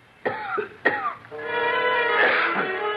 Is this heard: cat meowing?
no